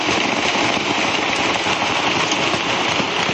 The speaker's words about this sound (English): Loud explosions, loud explosions, loud explosions. Sharp fire, sharp fire.